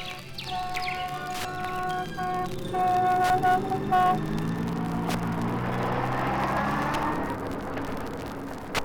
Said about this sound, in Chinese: 一溜溜汽车顺着盘山公路转哪转，就像在天上跑。那是解放军叔叔拉着器材修铁路去。